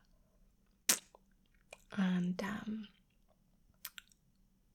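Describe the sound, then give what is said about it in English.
Wet mouth noises of someone chewing and swallowing a lolly: a few sharp sucking clicks spaced apart, with a short murmured voice in the middle, fairly quiet overall. “So we were like demonstrating on the lollies like this, like.”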